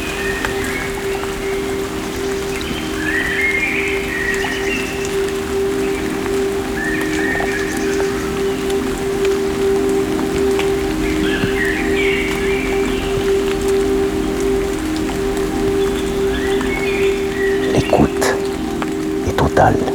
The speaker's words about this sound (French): Et une légère pluie à présent. Commence à tomber. Sous les arbres et le chant des oiseaux.